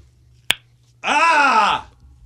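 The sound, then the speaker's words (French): A single loud, sharp crack of a finger joint, followed half a second later by a drawn-out vocal groan or exclamation that rises and falls in pitch. “Moi, je suis capable de faire craquer mon doigt vraiment fort, je vais le montrer.”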